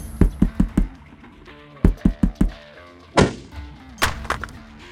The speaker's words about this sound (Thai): ตายแล้วโทรศัพท์หล่นทำยังไงดี